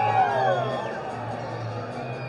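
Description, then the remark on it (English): A large crowd at a Lansing Lugnuts baseball game at Jackson Field cheers and roars while doing the wave around the lower bowl during a pitching change, a steady, loud wash of many voices for a couple of seconds, with a faint tonal hum running underneath. “Jackson Field trying to wave them on as they get the wave going around the lower bowl here during the pitching change. What a great crowd tonight.”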